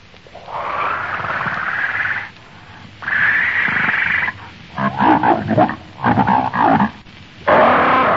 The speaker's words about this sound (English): Jabbering gutturally through thick, slavering lips, the monstrous ape reaches out a hairy arm and paw and grasps Wolf for the back of the neck.